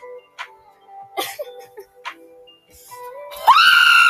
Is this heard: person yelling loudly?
yes